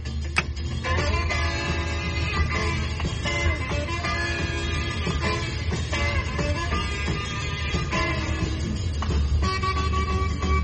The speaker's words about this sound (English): Easiest karaoke song out there.